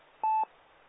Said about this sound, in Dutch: Nu weer mijn telefoon.